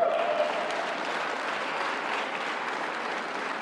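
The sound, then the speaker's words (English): A crowd applauds steadily for CS Wind employees receiving end-of-year bonuses, a dense wash of many hands clapping at even volume for a few seconds without pause. “You can clap for that, man.”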